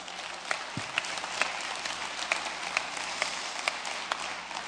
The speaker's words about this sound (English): Moms are amazing. Here's the visual aid, right? Go ahead and clap for moms. Go ahead.